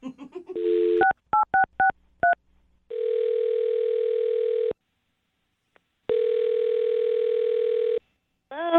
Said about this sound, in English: I'm gonna dial her phone number right now, man. Here we go.